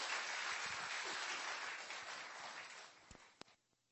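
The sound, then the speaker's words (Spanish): A crowd applauds steadily to welcome a speaker, a dense wash of many hands clapping that holds for a few seconds, then thins out with a few last distinct claps before fading away. “Vamos a recibirla con un cariñoso aplauso.”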